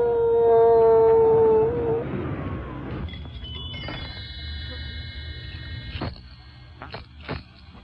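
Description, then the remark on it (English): A loud, sustained dog-like howl holds a steady pitch for about two seconds, then trails off, giving way to softer high-pitched tones and a low background rumble. “Dance and howl.”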